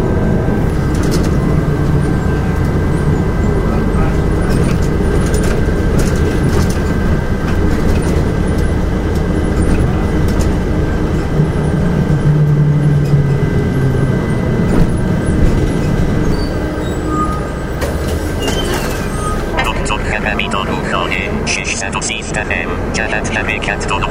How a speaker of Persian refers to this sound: الان من داخل اتوبوسم دارم میرم.